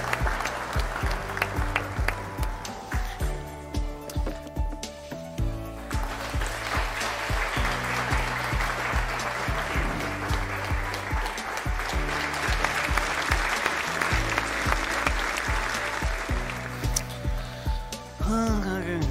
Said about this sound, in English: Let's hear it in the chat. Let's hear some claps.